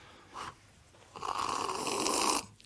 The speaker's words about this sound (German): Er schlürft. So muss man schlürfen, der ist zu heiß.